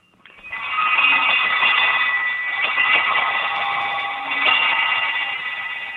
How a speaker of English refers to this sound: on this next bell ring, it was from Holland. And it basically was designed as a single bell.